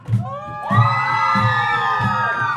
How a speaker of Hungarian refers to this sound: Na, ha jól érzitek magatokra, akkor háromra sikítsunk egyet, jó? Hogy hallják a szomszédba is. Egy, két, há!